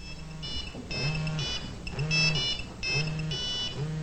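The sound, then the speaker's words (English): A cell phone rings with a repeating electronic ringtone, bright beeping bursts recurring about once a second at steady volume, with no one speaking. “Monica answers her cell phone.”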